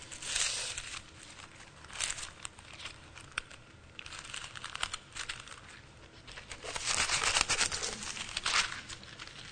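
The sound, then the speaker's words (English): Thin Bible pages rustle and crinkle continuously for several seconds as someone searches for a passage in 2 Corinthians, a dry crackling that swells louder toward the end, with no voices over it. “That's what happens with thin paper.”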